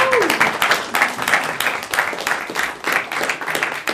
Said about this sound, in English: It is indeed my honour to say congratulations to you all and a round of applause in support of one another.